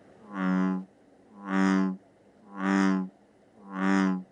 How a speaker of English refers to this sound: I started researching local frog species and their calls to try and identify what kind of frogs were in the neighborhood. Red-legged frog? Okay, wasn't that one. Let's try the bullfrog.